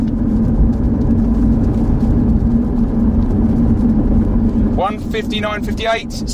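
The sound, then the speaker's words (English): A car drives along on a timed run, coming round a corner toward a slip road, with a steady, loud engine and road rumble. Toward the end, someone shouts excitedly over the noise to stop the car. “Stop the car! Stop the car!”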